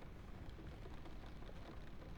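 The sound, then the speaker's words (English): Soft, steady rain falls outside, a continuous low hiss with a faint patter and no voices, quiet and even throughout. “And you hear the rain outside? It's nice, isn't it? Relaxing.”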